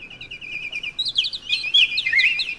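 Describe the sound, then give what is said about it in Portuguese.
A busy chorus of small birds chirping and twittering, dense overlapping high-pitched calls that build and grow louder toward the end, with no voices. “E assim, pouco depois, voltava o pássaro azul, contente como ele só, trazendo um lindo trenó puxado por milhões de passarinhos.”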